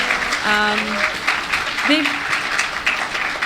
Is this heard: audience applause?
yes